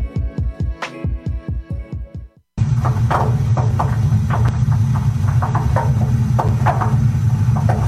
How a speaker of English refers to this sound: Is your water heater making that noise again? You know, the way it groans and creaks when it warms up.